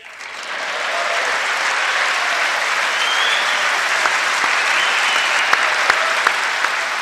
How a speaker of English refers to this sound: And that's him. That's his loud clapping in front of the mic over the American flag.